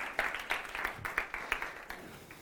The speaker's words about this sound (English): They've been so great. Can we applaud